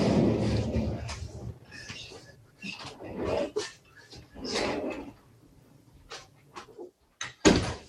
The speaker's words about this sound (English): All right. I'm going to have to close that door.